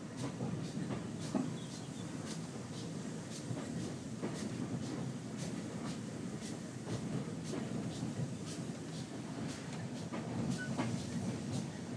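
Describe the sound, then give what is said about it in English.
A heritage train rolls steadily along the main line, arriving at Staverton, its low rumble constant, with rhythmic clicks and faint knocks of wheels over rail joints throughout. No one speaks. “so we're on the main line, and the loop would be on the left.”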